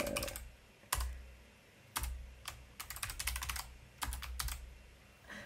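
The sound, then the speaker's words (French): Typing on a computer keyboard: sharp, irregular key clicks arriving in short bursts and scattered taps, with a low steady hum underneath and no voices. “Hop, il faut toujours que j'arrive à utiliser ce clavier.”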